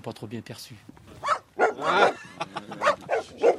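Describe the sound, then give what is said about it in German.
Three shaggy dogs bark and yip in a string of short, excited bursts on a farm in Biussac, while someone talks over the commotion. “Umringt von drei zotteligen Hunden geht er den kleinen Weg hoch, der zu seinen Gewächshäusern hinterm Haus führt.”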